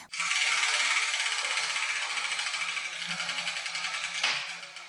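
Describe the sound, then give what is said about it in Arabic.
A steady mechanical whirring and rattling as a letter wheel is spun, with rapid clicking throughout and a brief clatter near the end as a ball marked with a letter drops out; no one speaks. “ما رأيك لنذهب إلى فقرة دنيا الحروف ونحرك الدولاب؟”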